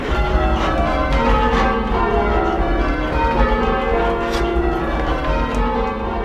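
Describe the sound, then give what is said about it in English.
Church tower bells rung in changes by the MIT Guild of Bell Ringers, a dense, continuous cascade of overlapping strikes whose tones blend into a loud, shimmering wash with no voices present. “It's called the MIT Guild of Bell Ringers.”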